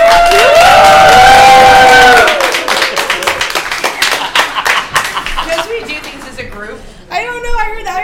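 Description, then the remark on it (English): A conference crowd claps steadily in a dense, fast patter of many hands, opening with loud cheering and whooping voices, then settling into sustained applause that tapers briefly before picking up again. “We're clapping. We're ourselves clapping.”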